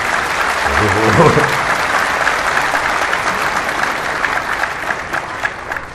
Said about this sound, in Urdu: یہ تو دکھ والی بات پہ تم نے تالیاں بجائی ہیں.